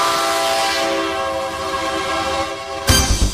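A train horn blows in a long, steady blast over the rumble of a moving train, then the horn cuts off and loud clattering from the rolling cars takes over.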